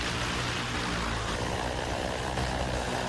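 A flying taxi prototype, one of the first already in operation, gives off a steady, whooshing mechanical drone in flight with a low rumbling hum underneath, holding a constant loudness throughout with no voices.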